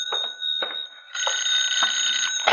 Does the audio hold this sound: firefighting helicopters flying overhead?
no